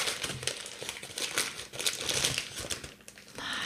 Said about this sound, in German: Es wird eine richtig geile Tüte gezückt. Es ist eine Bäckereitüte.